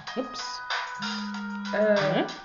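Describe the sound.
A new mobile phone's ringtone plays a short electronic melody with sustained tones and rising sweeps, clear, over a brief stretch of background voices.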